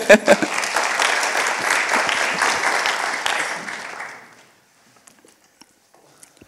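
A crowd claps steadily for about four seconds, a dense patter of hands that fades out quickly, leaving near silence with a few faint scattered sounds.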